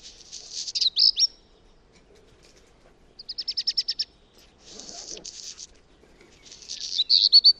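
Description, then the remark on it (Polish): A black redstart sings several short phrases separated by pauses, mixing quick repeated whistled notes with a scratchy, crackling burst, clear with no talking. “Nie tylko kopciuszek będzie tak robił, może robią tak też rudziki.”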